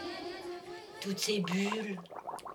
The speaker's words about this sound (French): Toutes ces bulles.